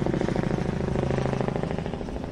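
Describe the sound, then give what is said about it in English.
A helicopter circling overhead, its rotor thumping in a steady, rapid pulse over a low droning hum, fairly loud and continuous throughout, with no voices. “What the fuck is that helicopter doing? It circled the place.”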